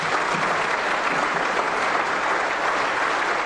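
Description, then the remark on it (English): Sustained applause from MPs in the House of parliament applauding the Speaker, Lockwood Smith, after question time, a dense, steady wash of clapping at even loudness throughout with no pauses or speech. “MPs applauding the Speaker, Lockwood Smith, who just apologised to them for allowing question time to run for an hour and 20 minutes, rather like the bad old days.”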